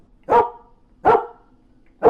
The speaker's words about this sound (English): That's when Chip began to bark.